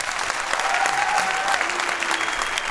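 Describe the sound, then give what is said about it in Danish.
An audience applauds steadily, a dense wash of many hands clapping at a sustained, fairly loud level, with a few whistles and cheers poking through the noise. “Vi er jo en podcast, så I skal give et bifald.”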